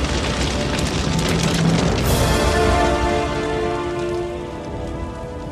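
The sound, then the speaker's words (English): Heavy rain pours down steadily onto the savannah around Pride Rock in The Lion King, putting out fires, in a dense, loud hiss of drops on surfaces, with a low rumbling boom swelling underneath before the downpour eases slightly toward the end. “The skies break open, showering rain onto the savannah.”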